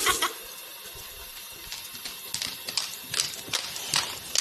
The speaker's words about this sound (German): So, noch schnell die Pfoten und das Wasser halten, schön waschi-waschi machen.